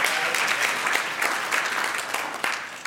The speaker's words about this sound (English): Come on, church, that's where you applause. Amen. Amen.